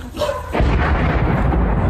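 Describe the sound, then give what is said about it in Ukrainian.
A Russian drone strike: a heavy explosion bursts about half a second in, followed by a loud, sustained low rumble that rolls on to the end, with no voices. “От щойно російський дрон кудись влетів, тому поспішаємо вивозити людей.”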